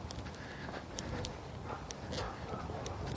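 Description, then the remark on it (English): Small birds chirp in brief, high, scattered bursts over a steady wash of outdoor background noise on a sunny day, fairly faint. “Some little birds chirping.”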